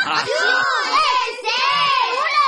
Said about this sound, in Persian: خیلی خوب بچه ها، به جای سر و صدا کردن ساکت باشین تا قصه زبل خان براتون تعریف کنم.